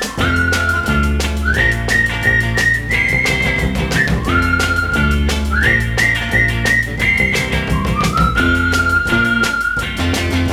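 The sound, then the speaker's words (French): A clear, bright whistled tune, a call signal used between friends, with rising and gliding phrases carries the melody over a steady instrumental backing with bass and drums, loud throughout, with no voices. “Pour l'appeler, il emploie un truc qu'ils ont mis au point, le sifflet des copains.”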